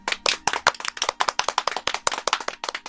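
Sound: clapping hands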